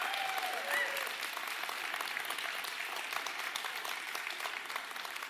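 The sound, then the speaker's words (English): A church audience claps steadily in sustained applause as Kids Church and Youth Group are dismissed out the back, a dense patter of many hands that holds at an even level for several seconds, with a brief faint whistle-like tone near the start. “Well, with a big round of applause, Kids Church and Youth Group is dismissed out the back end.”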